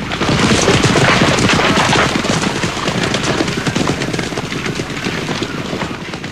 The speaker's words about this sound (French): Un cheval passe au galop tout près d'eux, suivi de plusieurs centaines d'autres, lancés à vive allure.